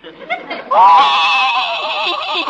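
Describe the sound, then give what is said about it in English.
A horse, Silver Moon, whinnies as if crying in a long, loud, quavering cry that holds for nearly two seconds, preceded by a few short breathy snorts, with no talking over it; from the CBS radio program Honest Harold. “I can't stand to see a horse cry.”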